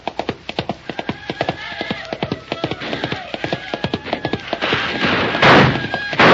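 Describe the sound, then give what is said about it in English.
A ridden mare gallops hard, its rapid, steady hoofbeats loud throughout, with a shrill whinny rising over the pounding and a burst of rushing noise near the end. “If you're not better than a Redskins pony, you're not my horse.”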